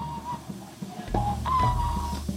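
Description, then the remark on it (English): A man whistles nervously while waiting, a wavering, halting tune with the pitch sliding up and down in short uneven phrases, over a low rumbling background. “Mr. Reese whistles nervously as time passes.”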